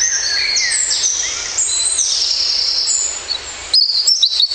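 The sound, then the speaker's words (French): Garden birds chirp and sing together in a dense, overlapping chorus of high whistles and trills, fairly loud and continuous, with a sharper burst of quick chirps near the end. “En savoir plus sur les oiseaux des jardins, comment les accueillir ?”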